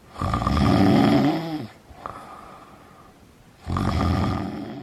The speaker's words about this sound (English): Imagine this. You're trying to sleep and the person next to you is snoring.